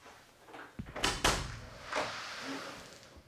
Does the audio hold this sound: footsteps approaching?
no